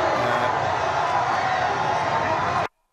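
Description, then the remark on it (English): A large crowd at a victory parade in Buenos Aires lets out a loud, sustained collective "ooh" as a man trying to jump on falls, a dense roar of many voices, then cuts off abruptly. “You hear the crowd kind of go, ooh, as the guy yeah, falls.”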